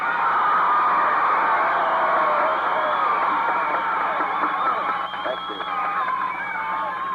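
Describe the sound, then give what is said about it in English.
A large crowd cheers and shouts continuously for the President of the United States after his introduction on September 23, 1948, a dense roar of voices with whoops rising above it, steady and loud for several seconds before easing slightly toward the end. “What a crowd.”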